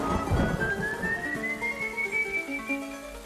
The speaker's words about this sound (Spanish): Durante el trayecto, el silbido característico del espectro acompañó sus pasos.